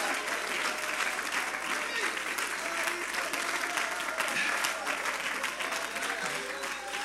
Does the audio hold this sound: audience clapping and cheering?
yes